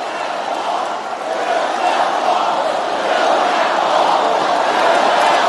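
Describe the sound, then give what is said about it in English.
A large crowd at a Trump rally chants the slogan 'build that wall' in unison, a loud, dense roar of many voices that holds steady and swells slightly throughout, with no single speaker standing out. “The crowd went nuts. They start shouting, build that wall, build that wall, build that wall.”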